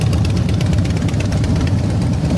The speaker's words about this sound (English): Most on motorbikes, lots of Harleys. I love the sound that bike makes.